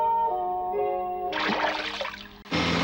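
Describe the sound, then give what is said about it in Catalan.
A soft tonal musical passage gives way to a loud splash of water as a fish swimming in a calm river jumps, a brief pause, then another burst of splashing. “Peix que neda per un riu en calma, salta.”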